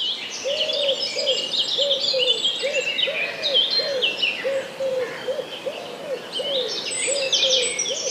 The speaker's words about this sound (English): So the wren is the bird that's making the trill you can hear. So he sings and then he finishes with a trill. That's the wren now.